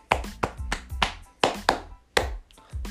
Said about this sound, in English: If you're still here, I want to give you a small applause.